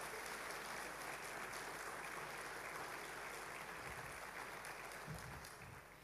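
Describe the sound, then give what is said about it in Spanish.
An audience at a Spanish-language church sermon applauds loudly and steadily to give glory to God, a dense wash of many hands clapping that holds for several seconds before easing slightly at the end, with no voices standing out. “Dale fuerte ese aplauso y gloria a Dios.”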